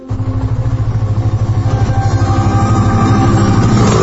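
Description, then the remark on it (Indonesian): A motorcycle engine runs with a steady, throbbing putter that climbs in pitch toward the end as it revs up, as the rider sets off for Garut on a fairly sunny morning. No one speaks. “Aku pun berangkat ke Garut menggunakan kendaraanku, sepeda motor.”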